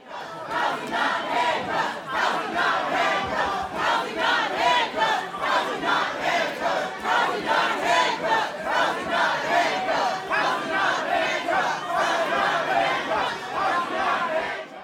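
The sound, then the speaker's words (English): A crowd of homeless advocates protesting a city vote that makes camping on city streets a misdemeanor yells the chant "Housing, not handcuffs" in unison, loud and steady, the shouted phrase repeating in a driving rhythm for the whole stretch with no pause. “Activists denounced the vote, yelling, "Housing, not handcuffs."”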